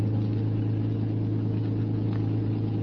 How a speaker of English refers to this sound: It was easy getting into the garage. I got in the back of the car and lay there on the floor and waited. Finally, they came out. The car started.